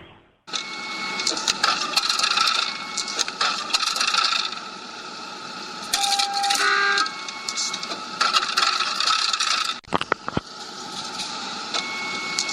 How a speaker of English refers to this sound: What you're hearing is the sound of an RP30 Kodak professional printer spitting out hundreds of Santa Claus pictures. The sound is the conveyor belt that pushes the photos onto trays, the trays filling up and rotating to accept more photos.